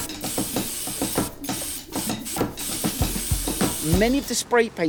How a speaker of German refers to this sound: Er packt Schablonen und Klebeband aus. Eine Schablone an die Wand kleben, das allein ist noch nicht illegal. Aber das, was er dann macht, schon. Er sprayt über die Schablone. Erstmal mit Schwarz.